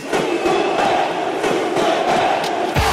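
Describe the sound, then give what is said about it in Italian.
A large crowd of football fans chants in unison, a dense, steady roar of massed voices with a sustained sung tone running through the full three seconds. “si innestano parole di incoraggiamento e di supporto per la propria squadra, parole facili da ricordare, possibilmente in rima, cosicché anche i tifosi improvvisati possano agilmente unirsi al coro e aggiungere forza al sostegno per la squadra.”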